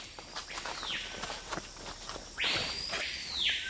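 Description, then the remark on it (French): A papayo bird gives loud, whistle-like calls marking its territory: a shorter sweeping whistle early on, then a longer, stronger pair of whistles, over a background of scattered crackles and taps. “Bah ça, c'est le papayo. C'est un oiseau qui est très discret, sauf par son chant, qui ressemble vraiment, c'est vrai, à un grand coup de sifflet.”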